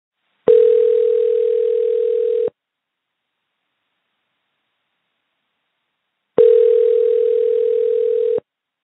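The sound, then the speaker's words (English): Two long, steady electronic ringback tones, each about two seconds, separated by a lengthy silence, like an outgoing phone call ringing on the line. Clear, with no voices. “After 7 weeks and thousands of phone calls, I think I found her.”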